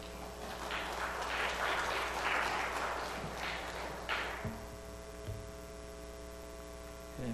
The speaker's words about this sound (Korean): 나오실 때 큰 박수로 한번 환영해 주시죠.